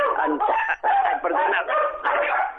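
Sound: dogs barking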